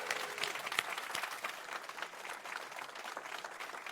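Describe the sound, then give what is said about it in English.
A crowd applauds the first-place team, 4J, at a certificate presentation: steady, dense overlapping claps forming a continuous, fairly loud wash of sound, with a few sharper individual claps standing out and no voices over it. “So, well deserved, a big round of applause for 4J.”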